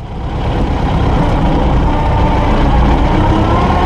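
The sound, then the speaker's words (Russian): A T-40AM tractor engine runs steadily, a loud continuous low diesel rumble with a rough, throbbing texture that holds constant throughout, with no voices. “Вы хотите послушать Т-40АМ? А я его слушаю. Нет, сейчас вот вы его послушайте.”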